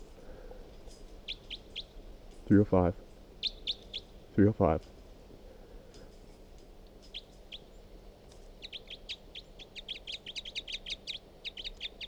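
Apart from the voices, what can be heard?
bird calls being recorded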